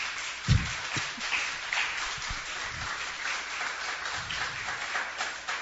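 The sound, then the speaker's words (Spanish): A crowd applauds a woman, the author of a book, a dense wash of many hands clapping at moderate volume, with a few stronger claps standing out near the start. “Este libro lo hizo ella y habla, un aplauso para nuestra hermana.”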